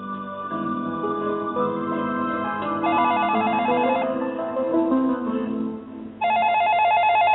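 A telephone rings at 3 a.m., as in a Hillary Clinton presidential campaign ad, in trilling, high-pitched bursts, one starting partway through and another near the end, over a steady bed of sustained tones. No one speaks.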